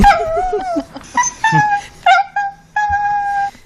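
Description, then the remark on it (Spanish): A small female dog whines in a string of high, wavering cries broken by short yips, rising and falling almost like a voice trying to talk, with no one speaking. “me impresionó mucho el vídeo de tu perrita Betty hablando”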